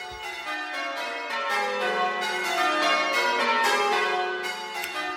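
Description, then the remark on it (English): Church bells of the parish church of St Peter and St Paul, Lingfield, in the Diocese of Southwark, ringing call changes on a Sunday morning: overlapping, evenly paced strikes peal continuously, their rich ringing tones sustaining and blending into a steady, moderately loud wash with no voices present. “We hear them now ringing Call Changes.”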